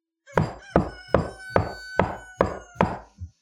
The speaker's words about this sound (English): So you hear this knocking at the door. It's still dark outside. He continues to knock as you guys kind of exit the downstairs, and Kendra's met you in the front lobby of the hou